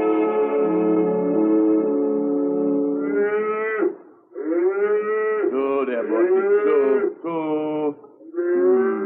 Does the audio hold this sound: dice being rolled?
no